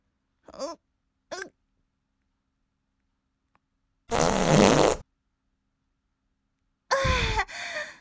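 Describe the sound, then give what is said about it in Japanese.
A run of farts: two short squeaky toots, a pause, then a long loud rasping blast, and finally a drawn-out one with a falling squeal. No talking. “まだまだおなら出るからね。”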